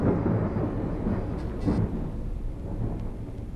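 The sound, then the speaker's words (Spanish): A thunderstorm rumbles with deep, rolling thunder over a steady wash of rain, a loud and continuous low roar with a brief swell near the middle. “Un día, a los dos ratones les pilló una tormenta.”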